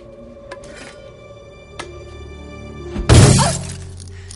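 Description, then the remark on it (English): Safety glass shatters suddenly in one loud crash with a bright crunching burst that fades quickly, preceded by a few faint clicks and a low background hum. “Did you know that was safety glass?”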